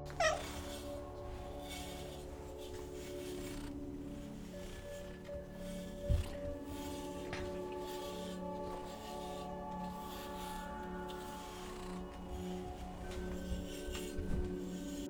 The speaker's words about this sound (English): Next, let's brush Bob the cat.